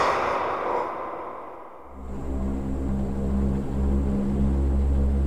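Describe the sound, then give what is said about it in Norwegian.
A white Norwegian airplane with a black and blue stripe along its body taking off from Fornebu in 1989, bound for Hamburg: a rushing whoosh gives way to a loud, steady propeller-engine drone with a deep humming pitch that holds strong to the end. “Et norsk fly tar av fra Fornebu og glir gjennom lufta I 1989.”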